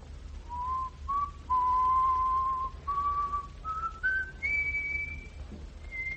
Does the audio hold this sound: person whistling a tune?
yes